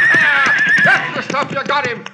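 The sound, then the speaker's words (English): A horse lets out a loud, shrill, wavering whinny that lasts about a second, followed by men's voices shouting over a busy, noisy background. “Bag him off that horse.”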